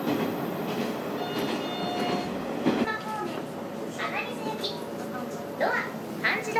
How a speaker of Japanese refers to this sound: ワンマン列車です。ドア脇のボタンを押してドアを開けて乗車口より整理券をお取りになりご乗車ください。